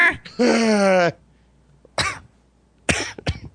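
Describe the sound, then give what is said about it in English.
A voice imitates a girl's goose-like honking laugh: one loud, nasal, sustained honk, followed after a pause by a few sharp, breathy coughing bursts from pushing out so much air. “I stopped talking to a girl because she laughed like a goose.”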